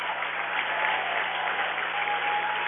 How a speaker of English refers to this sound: Hornets throwing in the towel. They bring in their backup six, and they'll get a big round of applause from their crowd.